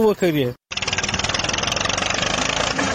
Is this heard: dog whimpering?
no